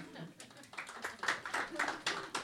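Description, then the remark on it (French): A scattered round of applause from an audience answering a show-of-hands question about sitting at the front of the bus, with irregular overlapping claps and murmuring voices mixed in underneath. “Est-ce que les gens de l'avant, vous vous mettiez à l'avant dans le bus par applaudissements ?”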